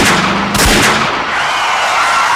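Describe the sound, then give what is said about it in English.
Two loud, sharp rifle shots crack out in quick succession, shooting out both back tires of a truck, each with a brief booming tail, over a steady low engine-like drone and a wash of hiss. “Raising the rifle, I took aim and shot out both back tires.”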